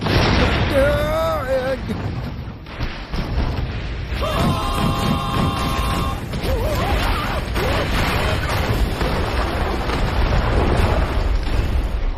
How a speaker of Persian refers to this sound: چی شد؟ آتش فشان؟